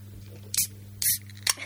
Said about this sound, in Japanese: OK、ちょっとその前にこれ開けていい？お酒。 飲もう。